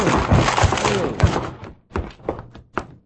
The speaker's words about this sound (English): Come on, help me bust this door down.